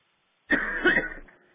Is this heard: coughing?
yes